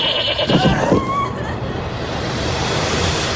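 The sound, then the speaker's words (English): A single wavering goat bleat rises briefly near the start, then fades into a steady wash of broad, rushing noise like surf or wind that carries on alone. “Six people. Stranded. On a ship full of goats.”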